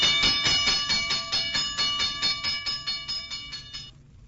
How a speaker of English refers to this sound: But the signal warning of a fire did not always sound like that.